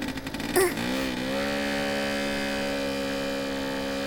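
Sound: moped engine revving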